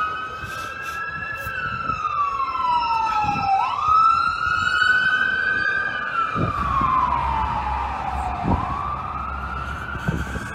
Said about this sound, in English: Now, I wasn't thinking to count them, but we're at well over a dozen emergency vehicles now have swung past us, wouldn't you say? Seems like that, yeah. Because that was just three or four right there, and that's probably the fourth wave of them